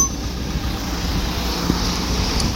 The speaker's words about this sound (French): Voilà, monsieur arrive dans sa voiture.